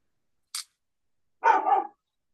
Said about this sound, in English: Oh, sorry. Neighbor dogs.